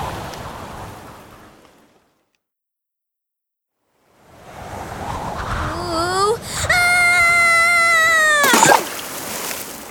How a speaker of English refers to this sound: Oh, but it's a bit windy up here.